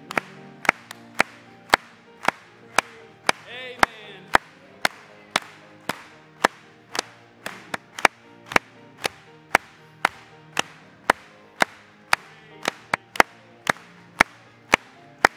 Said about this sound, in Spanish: Gloria a Dios. Vamos a aplaudirle.